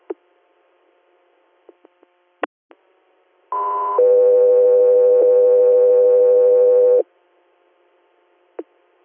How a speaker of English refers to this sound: Alpha, 3 years, stand by for tones.